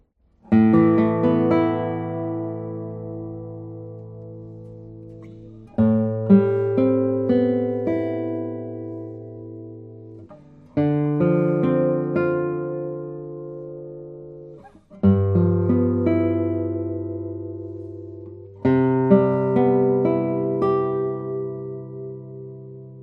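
Five chords strummed one at a time on a very light acoustic guitar, each ringing out with rich, soft overtones and slowly fading before the next, with no talking.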